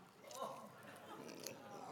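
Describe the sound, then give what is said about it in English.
Crisp crunching of teeth biting into crunchy KFC fried chicken with a seasoned coating, with a few sharp crackles and soft chewing noises over about two seconds, and faint background murmuring. “I'm not sure whether it's the crunch, whether it's that seasoned coating, but those spices, those 11 secret herbs and spices just dance around on your tongue, don't they?”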